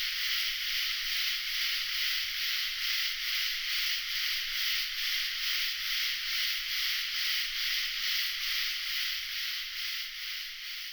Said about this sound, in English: I mentioned at noon, during our noon show, Antoinette, that cicadas are one of my favorite sounds in the world, and you pointed out that I say that about a lot of things. You do. But it's still true. I love cicadas.